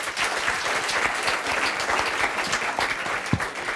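Steady audience applause fills the whole stretch, a dense, even wash of many hands clapping at a fairly loud level, with no voices over it.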